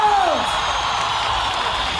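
A large crowd applauds and cheers in a dense, steady roar of clapping and shouts, opening with a single high whoop that slides downward in pitch.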